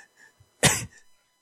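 A single sharp, harsh cough bursts out, loud and brief, with quiet faint sounds just before and after it and no talking.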